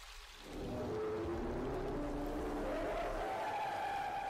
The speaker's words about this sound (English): Whoa. No! No more whale! You can't speak whale! Yes, I can! No, you can't!